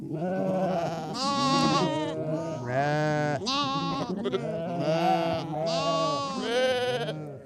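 Several sheep bleat loudly, their wavering, nasal calls overlapping one after another with hardly a pause, like a small flock crying out together.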